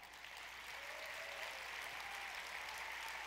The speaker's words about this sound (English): And can I get actually my team to stand up here? I want to acknowledge them for a quick second. If we could give them a big round of applause.